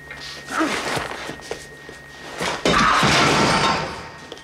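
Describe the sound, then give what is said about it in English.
A man angrily knocks over an oxygen tank with a clattering knock, followed by a few dull thuds and then a loud, sustained banging as he bangs a wall in frustration, with no talking. “He angrily knocks over the oxygen tank, then bangs a wall in frustration.”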